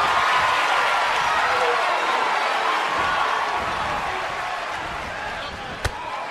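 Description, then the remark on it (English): A large arena crowd at a wrestling match cheers and applauds in a dense, sustained roar that eases slightly over time, with one sharp slam-like impact ringing out near the end. “Huge crowd.”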